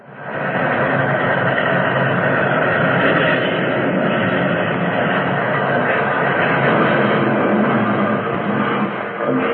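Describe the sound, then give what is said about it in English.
A train roars past at night in a loud, unbroken wall of rumbling, grinding noise that stays dense and heavy for the whole stretch, with metallic crashing churning inside it and no voices, as it plunges out of a tunnel mouth and its rear cars are flung off the track. “Fearful grinding and crashing filled the air.”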